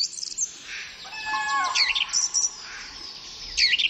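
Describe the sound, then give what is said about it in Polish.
Several birds sing at once in early spring in a wild forest in April: overlapping high chirps, trills and whistled phrases in a steady chorus, with no talking. A few sharper repeated calls stand out against a soft background hiss. “wiatry i te śniegi delikatnie przytłumiły te odgłosy wczesnowiosenne, również ptactwa”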